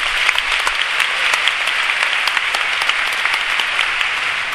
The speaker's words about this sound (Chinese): 他们给我们带来这么好的环境，这么好的课程，我们热烈的掌声谢谢公司。